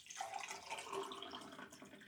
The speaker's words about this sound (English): Water. He's pouring some water. Water.